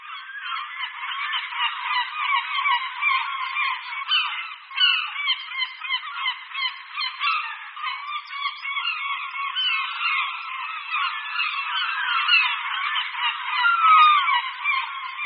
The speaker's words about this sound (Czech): Posloucháme křik hejna Radku Stříbřitých. Jsou to velmi společenští ptáci, kteří obývají skoro celou severní polokouli, a to nejen na pobřeží, ale i ve vnitrozemí.